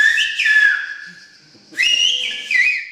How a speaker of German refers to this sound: die griechische Pfeifsprache mittlerweile als Teil des immateriellen griechischen Kulturerbes anerkannt.